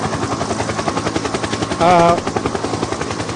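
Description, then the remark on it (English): A private helicopter passes overhead, its rotor blades beating in a rapid, steady chop that stays loud throughout, with a brief higher-pitched whine rising out of the noise midway. “My private helicopter is just flying by.”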